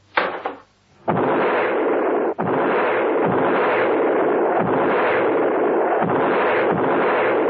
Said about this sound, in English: The man spun round and let loose a magazine into the bushes. The shots crashed and echoed around the silent garden